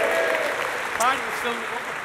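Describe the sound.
An audience breaks into sustained applause, a dense, steady wash of clapping that holds for a couple of seconds, with a brief voice or whoop rising above it partway through.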